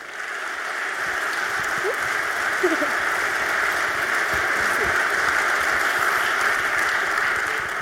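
Warm applause from an audience welcoming two speakers, a dense, steady wash of clapping that swells in quickly and holds evenly for several seconds with no voices over it.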